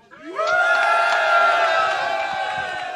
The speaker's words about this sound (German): Das ist dein Applaus